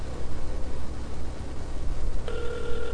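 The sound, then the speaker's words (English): Steady hiss fills the line, then near the end a phone ringback tone starts: a clear, even electronic ring heard through the earpiece, fairly loud over the noise, with nobody talking, on a call to a wireless phone in the Alltel network. “Well, we know the phone's on because it's ringing.”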